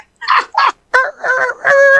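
Two short raspy bursts are followed by a loud rooster crow in the timber, crowing back in answer to yelp calls; a harmonic call that breaks into a few choppy segments and ends on a sustained, strained note. No one speaks.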